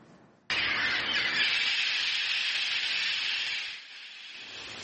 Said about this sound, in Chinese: That is their outdoor voice. 听听这鹦鹉在室外的叫声，它们可不是安静的鸟。